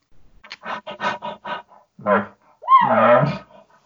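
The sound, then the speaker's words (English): An elk gives a quick run of short, breathy huffs, then two louder, harsher coughing calls with a rough, throaty edge, with no voices. “yeah, the coughs are included. So, but no, those just, you know, those little huffs.”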